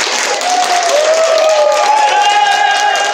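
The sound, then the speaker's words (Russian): A crowd applauds loudly and steadily to welcome the participants of a tournament with teams from the Murmansk, Apatity, Severomorsk, Monchegorsk and Kandalaksha organizations; dense clapping with some cheering and sustained tonal whistles or shouts rising above the crowd noise. “Давайте поприветствуем всех их участников громкими аплодисментами.”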